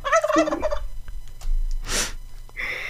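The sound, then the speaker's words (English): A wild turkey in London lets out one fast, warbling gobble, followed by a short breathy rush and softer noises over a low steady background rumble. “We have wild turkeys here.”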